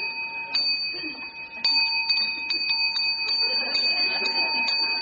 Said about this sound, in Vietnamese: Bởi vì mình dặn hắn nghe chuông. Phải chi mà mình nói lâu lâu mình điểm tiếng về mình dặn nó nghe chuông mà lại nghe không, mà ông cứ mà hồi 3 hồi rồi.